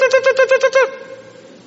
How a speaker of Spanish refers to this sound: ¿Para qué se suena ese tipo de sonido? ¿Cuántos tienen despertadores que suenan así?